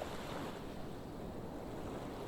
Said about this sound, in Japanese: 波の音を聞いているうちに心がスーッと引きずり込まれていく。